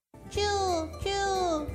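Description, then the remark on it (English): A voice imitates a mouse squeak the Japanese way, with two drawn-out, falling high-pitched vocal sounds in quick succession, fairly loud, with a low hum underneath. “It's a mouse in Japanese.”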